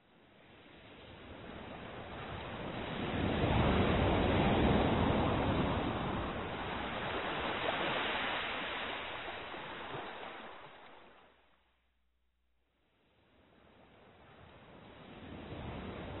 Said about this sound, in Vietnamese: Trở về biển, nhìn dấu chân đã đi qua, sóng xô bờ đã bao lần xóa thật kỹ.